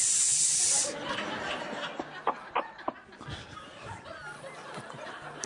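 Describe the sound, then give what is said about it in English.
A loud, steady hiss lasting just under a second, then fading into quieter scattered clicks and soft breathy chuckling. “Or C, hiss.”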